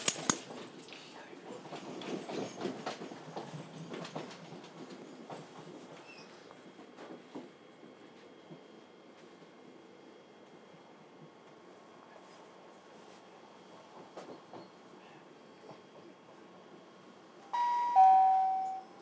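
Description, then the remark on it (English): A train rumbles and rattles into a terminus station, where it terminates, the noise gradually easing as it slows to a stop, followed near the end by a bright electronic chime ringing out. “This train terminates here.”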